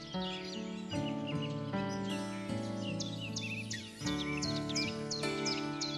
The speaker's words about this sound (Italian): Udivano continuamente il canto degli uccelli ed ogni giorno vedevano spuntare fiori.